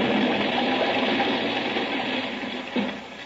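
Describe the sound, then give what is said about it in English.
A rocket ship jet sound effect, invented by Ora for radio's very first science fiction radio show, Buck Rogers: a steady, loud roaring rush of noise over a low droning hum, fading slightly before a brief surge near the end. No voices. “Radio's very first science fiction radio show took off with jets that Ora invented.”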